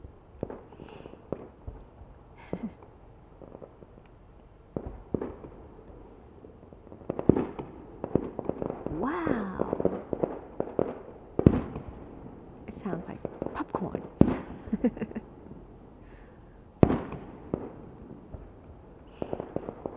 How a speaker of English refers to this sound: Firecrackers in Vietnam are very different. It sounds very loud and very continuous, like for like 5 minutes.